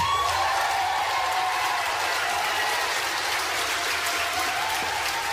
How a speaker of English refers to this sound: So now people start to stand up, if you can't see, if you're just listening. People start to stand up, and the applause goes on and on and on.